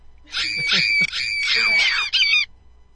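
A high, shrill scream wails for about two seconds, wavering and cracking like an eerie doll or ghoulish shriek, loud with no other voices.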